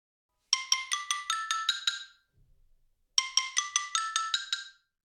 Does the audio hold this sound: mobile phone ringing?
yes